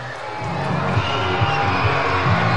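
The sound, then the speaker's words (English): A large baseball crowd at a Fresno Grizzlies home game cheers steadily as a 19-year-old batter comes up with the bases loaded after the 8th walk of the night: a dense roar of many voices with scattered whoops and shouts rising and falling throughout, loud and sustained with no break. “Let's hear this crowd.”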